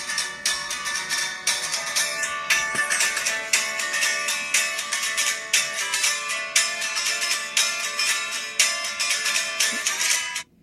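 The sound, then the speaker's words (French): A thin, tinny electric guitar, recorded with a phone held against it to capture the first idea of a song, plays a steady, rhythmic riff with bright repeated notes and almost no bass. No one speaks. “Ça, c'est vraiment une guitare électrique contre le téléphone.”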